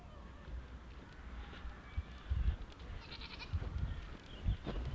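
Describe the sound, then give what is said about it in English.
A goat bleats a few times in short, wavering calls, fairly faint against rumbling outdoor background noise in the sun, with no one speaking. “Shut up, goat.”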